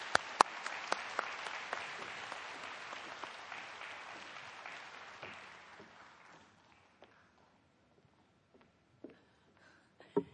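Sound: warm audience applause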